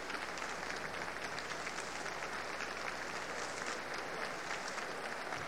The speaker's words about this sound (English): And now George Sell is returning to center stage to accept the applause of the audience. And he asks the members of the orchestra to stand with him.